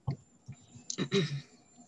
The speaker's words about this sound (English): So I'm going to take a sip of water.